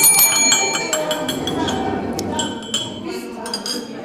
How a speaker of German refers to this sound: So, meine Lieben. Wo ist deine Glocke? Hallo, meine Glocke hier.